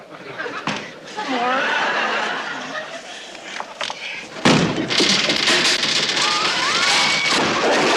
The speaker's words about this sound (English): Kick the door in. But it's my friend. Kick the door in. But an Orkin. Kick the door in.